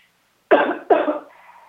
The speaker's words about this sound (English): is having a coughing seizure. It's okay. Have a sip of water. Oh, sorry about that. Allergy season is here.